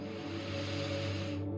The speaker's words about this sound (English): Now we'll take some lion's breath. That means you inhale through your nose, and then as you exhale, you stick out your tongue and sigh or make a roar sound, really letting go of the frustration or the anger. This isn't yours to hold. Inhale deeply.